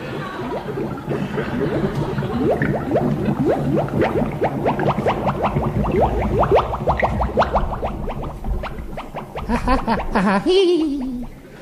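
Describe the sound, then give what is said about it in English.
A bubbling, boiling cauldron brew in an old Victorian manor: rapid, overlapping gloopy pops and rising blips churn steadily and loudly throughout, ending with a deeper gurgling swell. “what is that hellish fiend brew?”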